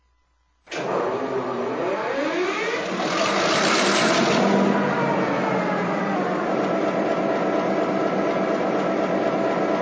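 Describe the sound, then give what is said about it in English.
A heavy diesel locomotive engine in a rail yard starts up abruptly and settles into a loud, steady rumbling idle with a rising whine early on, running continuously with no talking. “Stop her up here past the grain silos. Okay, I'll line you up for track number 4.”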